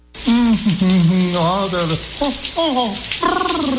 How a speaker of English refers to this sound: Did you just turn on some water someplace? No, why? Well, there's no hot water.